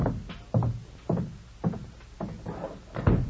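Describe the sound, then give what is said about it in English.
A door is shut by a lieutenant stepping outside, amid a run of dull wooden thumps, about six knocks and bumps spaced roughly half a second apart, moderately loud with no one talking. “Please step outside and close the door.”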